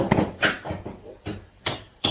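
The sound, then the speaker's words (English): A child bangs with a hammer, about five sharp, hard knocks at an uneven pace, with brief pauses between strikes and no talking. “And you're gonna bang?”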